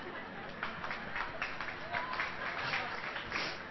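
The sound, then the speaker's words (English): A crowd claps steadily for a few seconds, a dense patter of many hands with some murmuring mixed in, fairly even in loudness throughout. “Now, all those who didn't clap, please stand up.”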